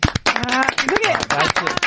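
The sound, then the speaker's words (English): A burst of quick, steady hand clapping from a few people continues throughout, loud and crisp, mixed with excited voices calling out over the claps. “Gave yourself applause for that?”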